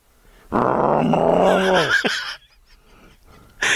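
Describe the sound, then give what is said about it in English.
A person imitates a deer grunt call, as used when hunting to bring a deer near: one loud, rough, drawn-out growl lasting about two seconds and sliding down in pitch, followed by near silence. “…, give me your deer call.”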